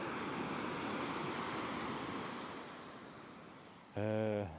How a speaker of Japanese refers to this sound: 今日は波も穏やかで、穏やかかどうかは皆さんは判断できないですけどね。波の音だけ聞くと結構激しくも聞こえますけどね、まあ、僕は割と穏やかだと思いますけど。